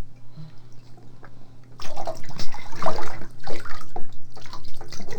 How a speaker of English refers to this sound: Don't pour water on me. I poured water on here, Dad. I poured water on here. Don't pour water on me, Dad. It's pretty cold. It just gets real cold, but when I put it in, it takes a little while to get it hot.